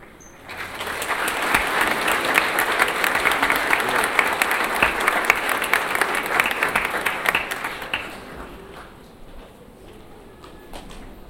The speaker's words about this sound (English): Right now, we invite you to stand up, face your parents so they can cheer for you as you go back to your seats.